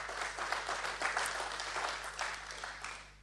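A crowd applauds steadily for about three seconds, a dense wash of many hands clapping at an even level with a low hum underneath and no voices.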